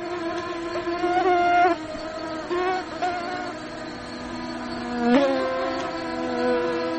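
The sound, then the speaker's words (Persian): A steady, harmonic mosquito whine hums continuously for several seconds, its pitch sliding and wavering as the mosquito moves, with one sharp swoop as it passes. “پشه ها از موذی ترین انواع حشراتی هستند که بشر به درازای هزارها کوشیده از شر نیششان رها شود.”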